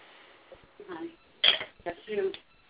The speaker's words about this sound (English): I can hear some dishes clanking.